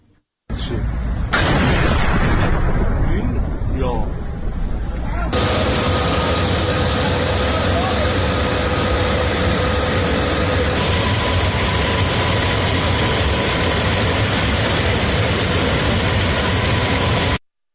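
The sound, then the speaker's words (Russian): An explosion in the city of Isfahan, Iran, at night: muffled background noise gives way to a sudden, powerful boom that rolls into a long, loud, continuous rumbling roar lasting until the end. “Ну и давайте посмотрим одно из видео момента взрыва в городе Исфахан.”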